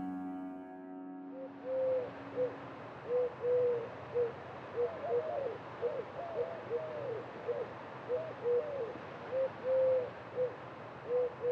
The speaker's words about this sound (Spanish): Tórtola turca, paloma turca, de nombre científico Streptopelia de Caoto, del orden Columbiformes y la familia Columbidae. Es un ave de tamaño mediano, de 26 a 32 centímetros de largo, de plumaje gris claro, con un tinte de color rosa en el pecho